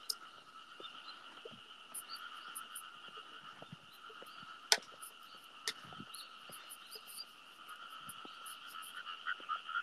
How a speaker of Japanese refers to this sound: あー、カエルが、カエルゲコゲコで笑った。